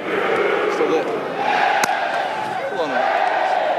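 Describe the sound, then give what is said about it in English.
A large outdoor golf crowd at the Ryder Cup at Whistling Straits Golf Course in Wisconsin cheers and roars continuously, a dense wash of shouts and whoops with a brief sharp crack midway through. “Not to say there wasn't plenty to cheer for the home country crowds at Whistling Straits Golf Course in Wisconsin, especially when Colin Morikawa clinched the Ryder Cup victory yesterday by tying European Victor Hovland in their singles match.”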